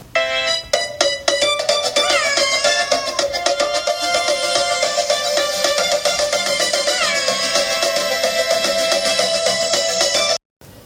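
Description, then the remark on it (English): Cheerful music from an iPad app game in which kittens play musical instruments, several instruments layered together, playing steadily and loudly for about ten seconds with a few rising glides, then cutting off abruptly. No one speaks. “each kitten reappears playing a musical instrument”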